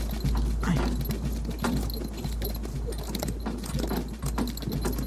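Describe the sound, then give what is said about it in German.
A horse-drawn cart rolls along a road in poor condition, with steady hoof clip-clops, jingling harness and a low rumble of wheels, continuous throughout. “Du sitzt auf dem Wagen.”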